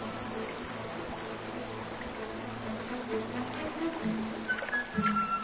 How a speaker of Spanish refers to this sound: Estos mirlos son los únicos pájaros cantores que pueden nadar y bucear.